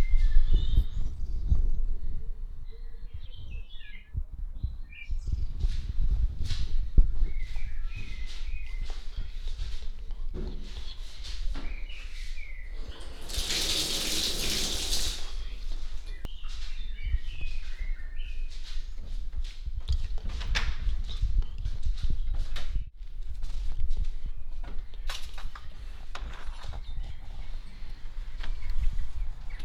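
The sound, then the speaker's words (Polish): A window is pulled open from its tilted position with a brief rushing swish midway, surrounded by scattered handling clicks and knocks, while birds chirp faintly outside. “Spróbuję skręcić oknem z uchylonej.”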